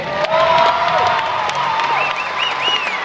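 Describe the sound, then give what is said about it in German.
A large crowd in the arena in London applauds steadily with loud cheering, whistles and high whoops rising over dense clapping, sustained at a strong level throughout, as Swiss silver medal winner Dariela Käsling accepts the spectators' applause on the podium. “Die Medaillengewinnerin hat den Applaus der Zuschauer entgegengenommen.”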